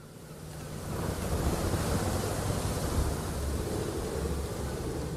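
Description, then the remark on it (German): Rough surf of the stormy sea between Northern Ireland and Scotland roars steadily with gusting wind buffeting the microphone, a dense, continuous wash of crashing waves that swells after the first second and stays loud throughout, with no voices. “Oben das stürmische Meer, unten die wetterfeste Tunnelröhre zwischen Nordirland und Schottland.”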